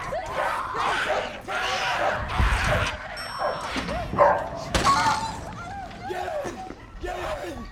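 A dog barks and snarls frantically in a chaotic scuffle as a man swings a hammer at it, with sharp crashing, breaking noises and people shouting throughout.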